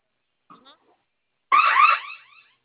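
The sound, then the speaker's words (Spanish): A brief faint noise, then a loud, shrill electronic alarm tone from a security alarm panel blares for about a second, wavering slightly before tapering off into silence as the panel is silenced. “Dele unos segundos al panel para que se Es que no. silencie.”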